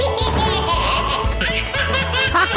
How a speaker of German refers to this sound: Ich freue mich immer wie dieses Baby, was da jetzt lacht.